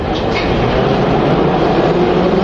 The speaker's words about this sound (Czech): Kolem nás teď procházejí straničtí a vládní představitelé k vagonu metra, který stojí připraven zde na této koleji v té nádherné mramorové hale označené nápisem Kačerov. Pokud nástup, dveře se zavírají. Vlak se rozjíždí.